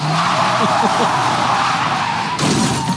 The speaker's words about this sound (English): Honestly, in reading the description of that car accident, I think it took about as long as this drop did.